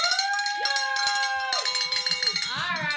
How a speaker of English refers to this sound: We get to ring the bell for that anonymous donor. So we get to ring it again.